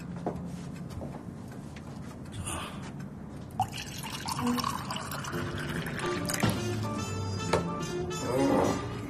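Red wine poured into a glass in the Jazzfisken record shop: a steady gurgling stream whose pitch climbs as the glass fills, with a few small clinks and drips along the way.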